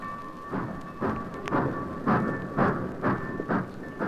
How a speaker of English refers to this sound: Britt watched as his father's train moved out of the station.